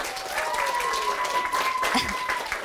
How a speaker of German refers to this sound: Und hier sitzen auf der kleinen Bühne im großen Probenraum. Kleinen Applaus bitte für die beiden.